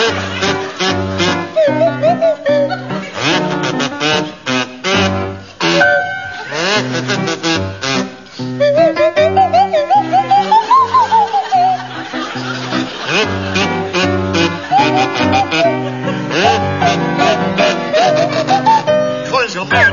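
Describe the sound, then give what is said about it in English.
Willie Rushton plays a kazoo and Tim Brooke-Taylor a swanee whistle in a bouncy tune over piano accompaniment, the whistle sliding up and down in pitch, with some audience laughter mixed in. “it's to feature Willie Rushton on kazoo and Tim Brooke Taylor on Swanee Whistle.”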